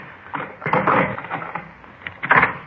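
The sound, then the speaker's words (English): A heavy, double-locked door is opened with a series of clattering, rattling knocks as the latch and handle are worked, a louder scrape in the middle and a final clunk at the end. “Here, let me get that door for you.”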